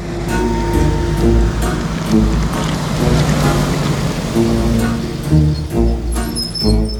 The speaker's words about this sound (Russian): Грузовик.